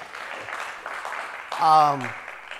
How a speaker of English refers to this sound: I wanted to, give the Holy Spirit a clap.